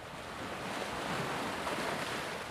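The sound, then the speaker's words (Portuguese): Ocean waves break against rocks in sunshine in a steady, deafening, continuous roar of rushing surf, a dense hiss with no pauses between crashes and no voices. “caminho pelas ruazinhas de pedras escorregadias, deixando o sol me tomar o corpo com as suas circunferências coloridas e o som ensurdecedor das ondas que quebram nas pedras embolarem os meus sentidos.”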